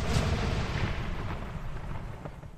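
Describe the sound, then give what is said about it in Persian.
A magic wand, Ron's wand mended with spellotape, explodes with the force of a small bomb as Lockhart casts Obliviate: a sharp explosive blast followed by a heavy, deep rumble that slowly fades over a couple of seconds, with no voices. “چوب دستی با شدت بمب کوچکی منفجر شد.”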